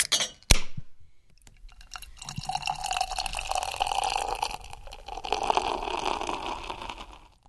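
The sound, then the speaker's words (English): A sharp click, then several seconds of wet sipping and slurping of beer at 10 a.m., with bubbly crackling throughout and no voices. “I look at my watch. It's 10 a.m. on the dot. And I take a sip.”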